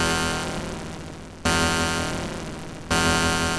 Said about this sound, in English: Yeah, that's a sound that you hear on a Vogon spaceship. Yeah, that's the PA announcement. That's when you hear that, you know the captain's gonna start reading some terrible, terrible poetry. It's like a paging tone.